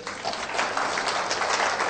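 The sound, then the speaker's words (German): An audience claps steadily throughout, a dense, continuous patter of many hands at moderate loudness with no pauses and no voices. “Ja, klatscht ruhig.”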